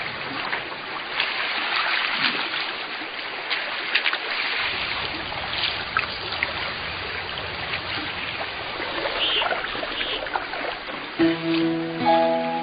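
Steady rushing of a river thawing in spring as the weather warms, with scattered crackling and clinking of broken ice drifting in the current, no voices; a brief tonal call rises near the end.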